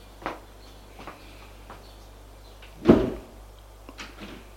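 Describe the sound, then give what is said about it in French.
Elevator doors slide open with a soft clunk on the top floor of an apartment building, followed by a few light footsteps as a man steps out; a steady low hum sits underneath the quiet scene. “Il va jusqu'au dernier étage. Sort de l'ascenseur.”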